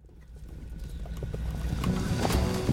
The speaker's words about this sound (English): Listen to that sound, and what do you hear? The pummeling vibrations of charging horse hooves on the ground, of course.